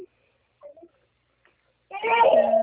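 After near silence with a few faint small noises, a young girl's loud, high-pitched wail bursts out and carries on to the end.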